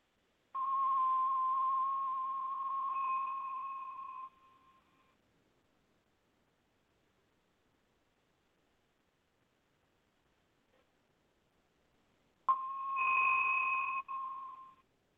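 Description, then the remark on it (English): A small hand bell rings twice, each a clear, sustained tone lasting a few seconds before fading, marking the start and end of a 30-second breathing exercise, with a long stretch of silence between the two rings. “When I ring my little bell, you guys start matching your breath in and out with the inhale and exhale, and then I'll ring the bell again at 30 seconds.”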